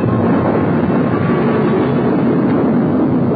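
A loud, steady roar from an Atlas rocket's engines at ignition and launch on November 28 at 9:22 a.m., a dense rumbling wall of noise that holds constant throughout with no voices or breaks.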